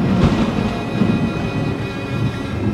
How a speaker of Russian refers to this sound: Схватил тогда Кудым-Ош камень пудов на 12 и бросил его в реку. Поднялась жестокая буря. Крутые волны заходили по всей реке.